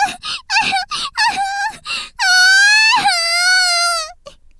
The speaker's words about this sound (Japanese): アミ、ユキホますます泣いちゃったじゃないか。